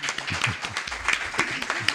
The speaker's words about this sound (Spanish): Por lo cual, un aplauso.